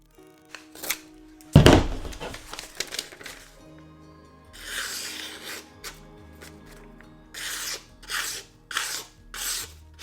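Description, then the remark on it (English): A freshly sharpened knife cuts into a wooden 2x4. A sharp woody crack comes early, then a run of rhythmic, rasping shaving strokes, fairly loud, with no voices. “Here's our $1 knife cutting through a 2x4 and still slicing paper with zero problems.”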